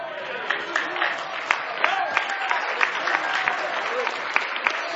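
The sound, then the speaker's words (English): A standing audience applauds in praise, steadily, a dense wash of many hands clapping with sharper individual claps popping out, plus faint voices mixed into the crowd noise throughout. “Give him a hand clap of praise tonight.”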